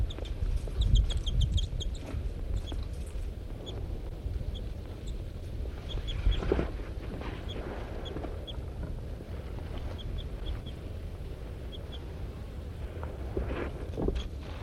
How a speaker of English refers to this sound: This is the pair of birds harassing M4.